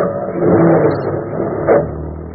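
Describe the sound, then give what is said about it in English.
A car engine drones steadily while driving, swelling into a throaty rev early on and surging briefly again near the end, with a low rumbling hum throughout and no voices. “I'm running the car. I'm driving, Ada.”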